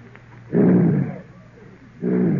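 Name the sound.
imitated lion roar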